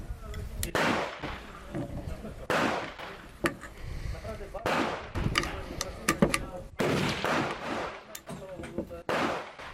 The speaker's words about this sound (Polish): Nie zmienia to jednak faktu, że jest to wspaniała maszyna, a jej 900 strzałów na minutę w ogniu ciągłym zaskoczyło mnie.